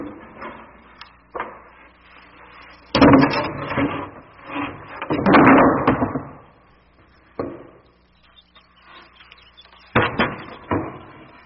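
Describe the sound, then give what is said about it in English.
Heavy wooden boards are laid over front steps to make a ramp for rolling a heavy piano from a truck, with a series of irregular knocks, scrapes and hollow thumps, fairly loud, with quieter pauses between clusters. No one speaks. “We're laying those boards over the steps to make a ramp.”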